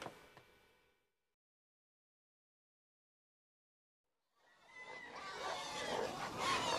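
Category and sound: animal, pigs grunting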